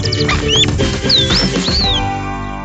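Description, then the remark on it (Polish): A sparrow chirps several times, short bright sweeping tweets scattered across a few seconds, clear, over a busy, steady musical background. “Tak jak słychać po pierwszych ćwierknięciach, w dzisiejszym odcinku przygód kilka pewnego wróbla.”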